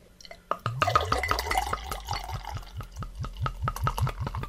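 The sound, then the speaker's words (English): Beer glugs steadily from a growler into a glass, a rhythmic series of gurgling pulses, about three per second, with a fizzy, foaming wash that builds as the glass fills. No one speaks. “Well, let's see how well I can pour here.”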